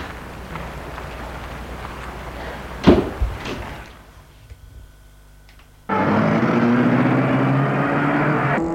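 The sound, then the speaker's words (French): Against outdoor ambience, someone gets into a car in front of an apartment building on a Sunday morning: the car door shuts with a solid thump, the sound turns muffled and quiet as if from inside, then the engine starts and hums steadily. “Il entre de suite dans la voiture.”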